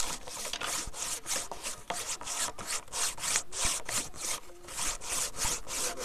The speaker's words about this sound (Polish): I w ten sposób sobie obrabiano promienie do strzał. Tym papierem ściernym są kawałki piaskowca lub łupka z wyrzeźbionymi kanałami, po których przykładano i ruchem pocierano aż do momentu wygładzenia.